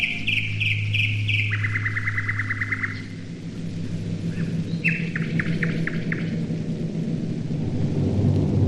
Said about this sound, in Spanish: Hasta que en 1942 se consiguió una grabación que constituye un monumento de la historia de la radio. Al principio, atención, se oyen con claridad los gorgoritos del ruiseñor.